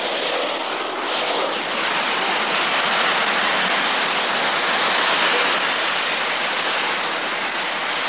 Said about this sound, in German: Hören Sie das Zischen austretender Luft?